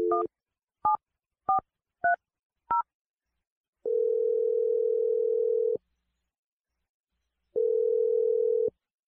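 Five quick keypad beeps from a phone being dialed for a call on the morning radio show Brooke and Jeffrey in the Morning, followed by two long, steady ringback tones separated by a pause of silence, clear with no voices.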